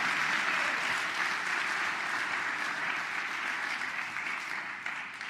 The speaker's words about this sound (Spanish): Dele un aplauso, Señor, alábele, porque Él vive.